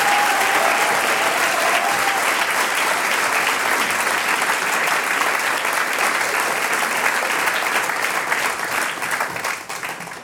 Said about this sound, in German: Und jetzt holen wir das Publikum auch dazu. Jetzt dürfen sie alle klatschen für den Chor der Volksschule Ilz.